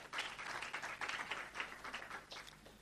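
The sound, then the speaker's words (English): An audience applauds itself for an achievement, a dense, steady wash of many hands clapping together for a few seconds, fairly soft in level and without any voices over it. “As a rainbow nation, we've got, and I just want you to give yourself an applause, because that is a wonderful achievement.”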